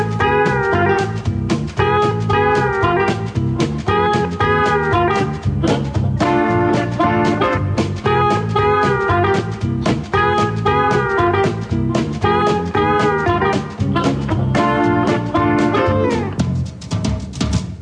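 Lively band music from a band's debut album plays loudly and steadily, with a driving beat and full instrumental harmonies, winding down into a closing chord near the end. No one speaks.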